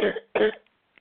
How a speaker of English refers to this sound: If you were to focus in on your throat where that cough is, and it had a colour, what colour would it be?